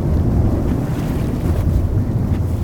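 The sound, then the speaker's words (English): Steady low rumble of a boat moving on open water, with wind buffeting loudly and continuously against the microphone and a constant wash of churning water, no voices. “So we're on the boat, walking up through the gangway, through the two fins, which are coloured in silver, like wings”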